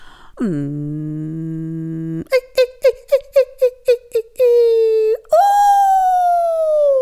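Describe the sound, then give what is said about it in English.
A voice imitates a car revving: a low droning hum, then about nine quick rhythmic revving pulses, a steady held tone, and finally a loud higher whine that slowly sinks in pitch. “See, even that, I was like, okay, this is the car revving up at the beginning.”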